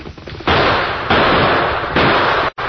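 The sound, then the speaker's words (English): Three loud gunshots, fired at a masked rider approaching on horseback, crack out at uneven intervals, each a sharp blast that rings on in a rough, noisy tail until the next. No voices are heard. “Shoot the horse.”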